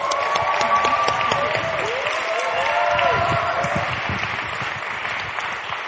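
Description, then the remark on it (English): A crowd applauds as a woman is invited up to speak, clapping steadily for several seconds, a dense, sustained wash of applause that stays fairly loud throughout, with a few scattered voices cheering within it. “Can we have a massive round of applause”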